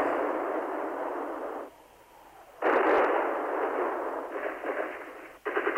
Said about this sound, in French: La nuit, les canons ont bombardé Sarajevo.